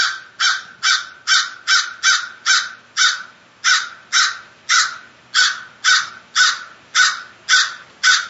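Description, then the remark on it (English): A crow caws loudly from about two trees away, a steady run of about sixteen harsh calls spaced under half a second apart, with no voices or other sounds around it. “As the crow wants to emphasize.”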